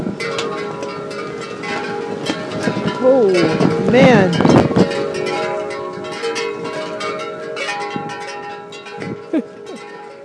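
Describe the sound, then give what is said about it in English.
A long, strong gust of wind in Anaheim, California, recorded from under a gazebo, roars steadily for about ten seconds, with bell-like clanking tones ringing through it and a man briefly exclaiming midway. “That was a huge gust of wind.”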